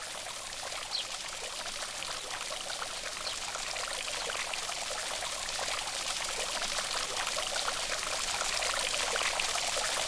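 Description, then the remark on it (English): Water trickles and splashes steadily from a garden fountain across a lawn, a continuous bright babble that holds even for the full stretch, with no voices. “And make your way back across the lawn. To the fountain.”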